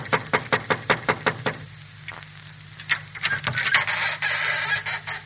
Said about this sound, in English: A uniformed emissary of the court of France pauses before a miserable hut on the outskirts of Paris. He raises his eyebrows in surprise, glances once more at the address on the envelope he is carrying, shrugs, then knocks at the crude door.